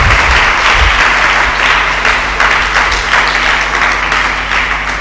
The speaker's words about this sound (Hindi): यीशु मसीह के लिए जरा जोरदार तालियां आ जाएंगी।